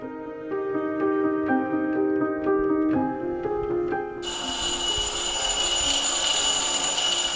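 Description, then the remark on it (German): A school bell at Volksschule Leopoldsdorf in Lower Austria rings for class at 8 a.m. on an October morning: a short melody of electronic chime tones steps through several pitches, then a loud, shrill electric bell rings continuously to the end, with no voices. “Die Schulglocke läutet zum Unterricht.”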